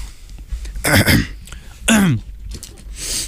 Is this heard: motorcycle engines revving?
no